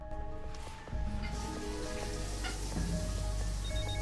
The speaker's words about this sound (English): I'm gonna jump in the shower.